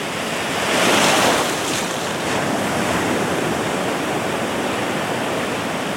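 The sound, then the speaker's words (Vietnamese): Loud, roaring waves churn continuously on a large river as a ferry boat reaches the middle of the river, a broad rushing wash of water that swells briefly near the start before settling into a steady roar with no voices. “Khi đò ra tới giữa dòng sông cái, thì thấy sóng nổi lên ầm ầm.”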